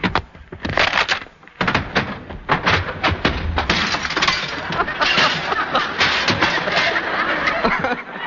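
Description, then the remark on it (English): Staged fight sound effects for a hero fighting a burglar, made by a sound man punching his palm, hitting his chest, throwing chairs, breaking fruit baskets and smashing glass in front of the microphone: a rapid, loud jumble of thuds, bangs and clattering crashes with breaking glass, continuing densely for about eight seconds. “threw several chairs around, broke some fruit baskets, and finally smashed some glass in front of the microphone”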